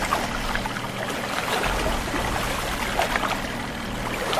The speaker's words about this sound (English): Now that's a fish that's making noise in the water. Let me see if I can catch him.